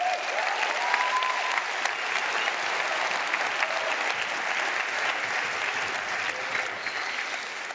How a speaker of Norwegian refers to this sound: Så litt av en gjeng dere har som pastor og ledere her. Jeg synes egentlig vi kan klappe litt for de også, ikke?